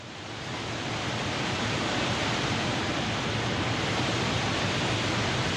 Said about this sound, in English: Then the water came back. It was very high and fast, and there was a lot of noise.